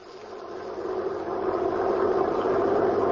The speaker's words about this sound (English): The prison truck was driving along the road.